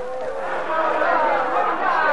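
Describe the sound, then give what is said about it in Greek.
A crowd outside at night, people passing with lanterns and dogs, shouting and calling over one another, a dense, continuous clamor of raised, overlapping cries that stays loud and steady throughout. “Μα τι είναι αυτές οι φωνές?”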